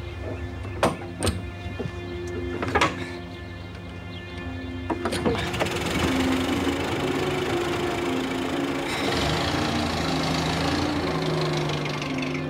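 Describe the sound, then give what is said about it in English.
A few sharp clunks and clicks, then Agatha Christie's car engine starts up in chilly weather and settles into a steady, loud, rumbling idle that grows slightly rougher toward the end. No one speaks. “I can't start it. I've tried.”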